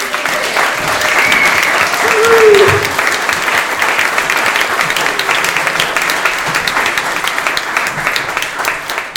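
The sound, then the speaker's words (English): A crowd applauds steadily for several seconds, a dense, even patter of many hands clapping, with a brief cheer or whoop rising near the start and no speech over it, applauding the town of Carnation. “Let's have a round of applause for Carnation.”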